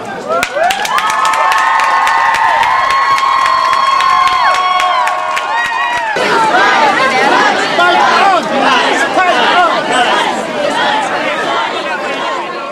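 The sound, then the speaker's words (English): A big rally crowd gathered in the rain chatters and cheers loudly and continuously, many voices overlapping, with sustained whistle-like tones and sharp claps early on before the noise swells into a dense roar. “When I see this crowd, it's amazing.”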